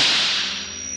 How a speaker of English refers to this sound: It was a whip crack. A whip crack set it off, and then you had this steely sound.